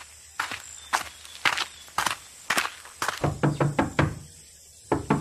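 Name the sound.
knocking on a door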